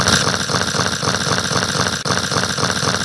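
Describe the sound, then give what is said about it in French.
The engine of a new Hurliman tractor idles steadily, its loud, rough chugging pulsing in a fast even rhythm throughout, with a brief dip near the end and no voices. “Le nouveau tracteur Hurliman.”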